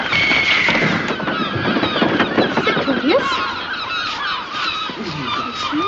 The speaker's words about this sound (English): Eagles! They're fighting! Look at the eagle! What are they fighting for? One of them's got something, see? It's claws there.